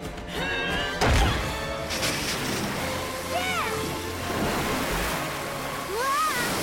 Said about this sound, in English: She dislodges the rock and water from the pool flows down the cliff onto the lava, throwing up thick clouds of steam. The lava solidifies.